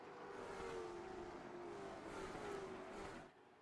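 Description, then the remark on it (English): A pack of 22 race cars roars at the green flag start of a 200-lap short track race at Irwindale Speedway, engines accelerating together in a dense, loud, sustained rumble with rising whining tones that swells and then eases slightly near the end. “We're short track racing for race number one. Green flag is in the air.”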